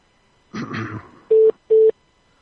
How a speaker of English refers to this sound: What the? There's a bunch of beeps going on.